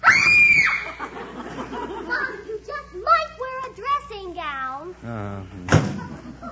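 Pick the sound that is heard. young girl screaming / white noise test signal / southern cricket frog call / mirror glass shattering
young girl screaming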